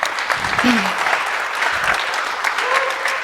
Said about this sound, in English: That is the end of that. We'll do a round of applause. Thank you very much.